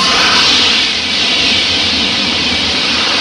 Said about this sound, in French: Un train, un TGV.